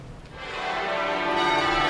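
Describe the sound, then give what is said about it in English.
Abbey church bells ring out in a celebratory peal at a coronation as the newly crowned king and queen emerge, their overlapping tones building and filling the air steadily and loudly, with no voices heard. “And then, newly crowned king and queen emerged to a celebratory ringing of the Abbey's bells.”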